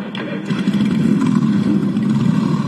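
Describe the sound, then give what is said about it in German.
A dense, continuous roar of many motorcycle engines revving together, loud, filling the whole stretch with a thick rumbling drone that swells slightly after the start, as bikers along Ludwig-Erhard-Straße start their machines at the close of a church event, in praise of God, before riding off in a convoy. “ich darf euch bitten, zum Abschluss der Veranstaltung zum Lobe Gottes noch einmal eure Motorrad sprechen zu lassen.”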